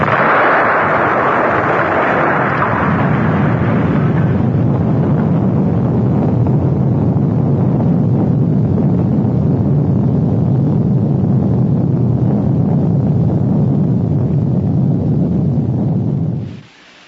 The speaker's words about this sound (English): Explosion and...